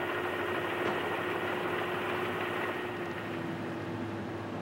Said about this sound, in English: That flatbed truck is going up the ramp now. It's known as the last load. Also, it's known as the Stars and Stripes beam.